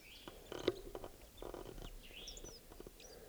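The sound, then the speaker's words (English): Quiet soft song of a wild bird, probably a male, up in a tree: soft, rapid chirps and twittering notes in short bursts, with a few higher whistled phrases over a faint background hiss. No one speaks. “He's in a soft song. It's probably a male.”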